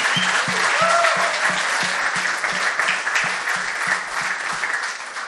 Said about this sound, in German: Ein Applaus nochmal an alle Freiwilligen.